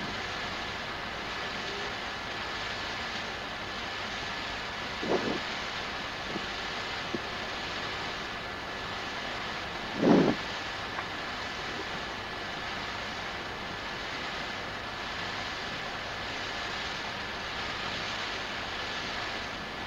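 A water accumulator pump clunks on with a short thump near the middle, amid a steady, low mechanical hum and rushing drone that runs throughout; an earlier faint knock, no voices.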